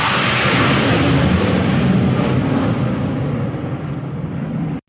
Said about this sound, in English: Yes, that is known as the joys of the countryside as I get buzzed by a large military jet. Thank you very much. Happens more frequently than I like to say.